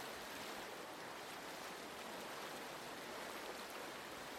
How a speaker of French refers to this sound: Je suis très très sensible au torrent parce que j'aime aussi beaucoup la montagne.